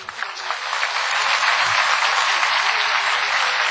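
Steady, loud audience applause fills the whole stretch, a dense wash of many hands clapping with no talking above it, holding an even level from start to finish.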